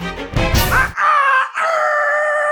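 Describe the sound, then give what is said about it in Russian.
A rooster crows loudly, a long strained call drawn out in two sustained phrases, preceded by a brief rough, noisy burst. “Запели петухи, колдун упал бездыханен.”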